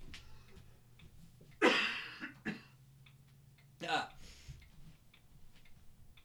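coughing into the microphone

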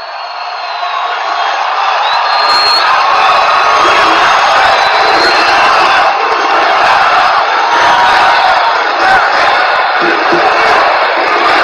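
crowd cheering

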